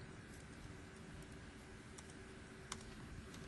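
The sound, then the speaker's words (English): Scattered keyboard clicks, a handful of light taps at an irregular pace, faint against a steady low hum, with no one speaking, as someone types to add a month name field to a revenue report. “Again, I start typing and drag in month name, and it's nicely sorted on alphabet.”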